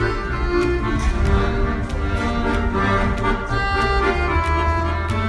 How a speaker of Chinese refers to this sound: 这是街头艺人的手风琴。